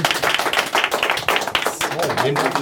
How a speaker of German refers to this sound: Applaus bitte.